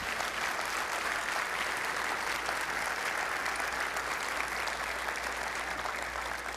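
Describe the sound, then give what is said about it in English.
An audience claps steadily for several seconds as a clap offering to the Lord, a dense, even wash of many hands with no pauses or voices breaking through, holding a constant moderate level throughout. “you really were blessed while ago, as I know you were, would you give the Lord a clap offering for that?”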